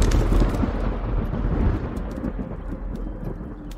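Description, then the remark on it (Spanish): A deep, sustained rumble of thunder from a looming storm on a cloudy afternoon rolls on for several seconds, loud and broad, slowly fading, with faint rain and crackles beneath it and no voices. “Era una tarde nublada por una tormenta amenazante en el cielo, como la de hoy, pero en la hermosa isla de Pátzcuaro.”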